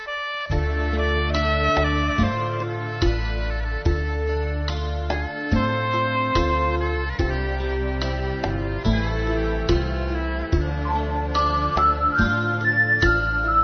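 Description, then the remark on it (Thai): An instrumental intro of a Thai song that was popular in the past plays alone, with a steady rhythmic beat, sustained bass and bright melodic notes sounding continuously at an even, moderate loudness, and no singing yet. “เอาละครับอีกสักเพลงหนึ่งชีวิตที่เกี่ยวข้องกับเพลงคนเราเพลงนี้เคยดังในอดีตเยอะมีนักร้องนำมาร้องหลายท่าน”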